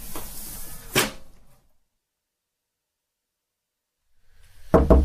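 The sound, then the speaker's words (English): A couple of sharp knocks on a door break a stretch of silence, following an earlier single thump amid soft rustling background noise. “It's okay, you don't have to knock.”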